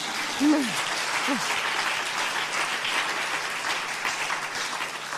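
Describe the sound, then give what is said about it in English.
A steady round of applause from a conference audience for the runner-up of a poster award, dense clapping filling the whole stretch at an even level, with a couple of brief vocal whoops near the start. “The one I read out was the runner-up and also deserves a round of applause.”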